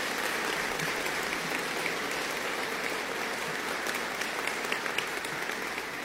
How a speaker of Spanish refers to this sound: le pediría a toda esta comunidad un fuerte aplauso a Mari por esos 6 años de trabajo